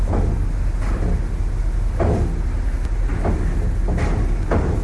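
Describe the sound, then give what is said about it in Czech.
A deep, steady engine rumble fills a busy car ferry port in Split, Croatia, broken by regular heavy metallic clunks about once a second, like vehicles rolling over a loading ramp, as a ferry prepares to depart for the island of Korčula and on to Lastovo. No one speaks. “Ve Splitu se zrovna připravuje k vyplutí trajekt s názvem Korčula.”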